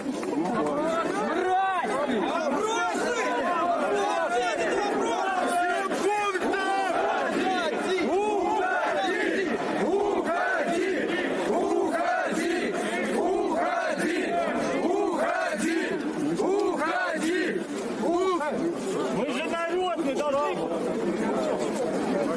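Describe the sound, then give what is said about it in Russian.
A large crowd of workers shouts and yells at an official continuously for over twenty seconds, many raised voices overlapping into a loud, steady roar of angry chatter with no pauses. “Спасибо, я сказал все, можете кричать, уходи.”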